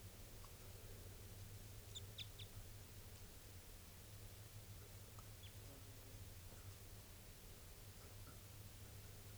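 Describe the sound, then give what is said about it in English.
A few faint, high, short chitters from a male bird looking down, clustered early and then scattered, sitting over a steady low hum and hiss. “Pointed at the bird. He's looking down. Chitter there.”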